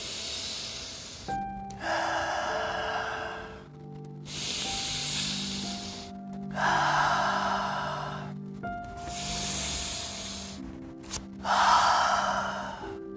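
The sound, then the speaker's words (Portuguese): Three slow, deep breaths taken while sitting comfortably during a guided meditation, each a long airy inhale followed by a hissing exhale. Soft sustained tones play underneath, and no one speaks. “Você pode sentar confortavelmente, puxar três respirações profundas.”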